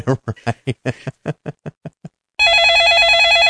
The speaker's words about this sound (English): Oh, phone's ringing. Hang on.